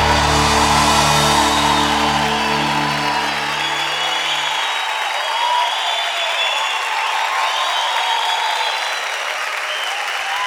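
A large audience claps steadily and loudly for the whole stretch, a dense wash of applause; a low sustained musical tone sounds underneath at first, then stops, leaving only the clapping crowd.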